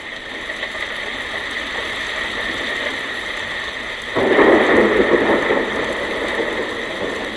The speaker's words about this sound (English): It sounds so much like rain, doesn't it? Oh, listen to that.